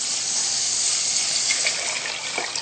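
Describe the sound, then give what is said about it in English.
Four cups of water pour steadily into a saucepan holding 2 cups of millet, a continuous splashing rush that stays fairly loud throughout with a few brighter gurgles near the end, and no one speaking. “So we'll add this to the pan.”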